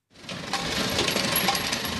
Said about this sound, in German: Es ist laut in der großen Werkshalle. Die Pressmaschinen rattern und brummen. Arbeiter in Overalls stehen daneben und kontrollieren die ausgeworfenen Metallteile.